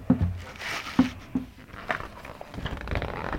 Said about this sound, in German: Und umblättern.